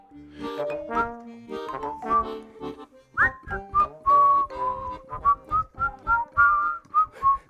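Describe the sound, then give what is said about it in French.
Someone whistles a lively tune, a quick run of clear, short notes rising and falling, after a brief lower tonal passage at the start. “Oui, on siffle de mieux en mieux.”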